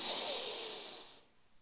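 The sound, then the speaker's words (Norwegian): A single long, deep breath drawn in through the nose, a steady airy hiss lasting over a second before stopping into quiet. Fairly loud, with no talking. “Pust godt inn med nesa.”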